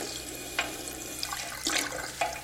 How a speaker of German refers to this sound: Hier ist das Badezimmer. Schön. Sehr modern. Das ist heißes. Und das ist kaltes Wasser.